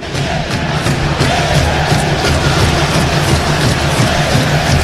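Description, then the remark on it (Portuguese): A stadium crowd of Bahia fans boos and chants in protest against Rogério Ceni, a dense, steady roar of many voices with rhythmic surges running throughout and no individual speaker standing out. “Olha a vaia do torcedor aí, Gabriel.”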